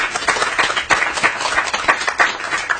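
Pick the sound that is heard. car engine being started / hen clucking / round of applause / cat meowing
round of applause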